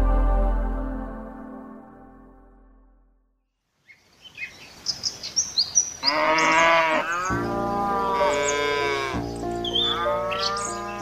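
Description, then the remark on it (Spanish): A deep, drawn-out moo from cattle on a hacienda opens the scene, fades to near silence, then a busy chorus of louder, higher bleating calls from farm animals overlaps continuously. “Todas esas vacas, todos esos terrenos, tanto esfuerzo de mi papá, todo pasó en un momento.”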